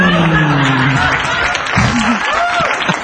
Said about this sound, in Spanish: Para el mejor disfraz de la noche. Para el mejor disfraz que jamás se había presentado en este lugar. Pedimos un fuerte aplauso para la gelatina de limón.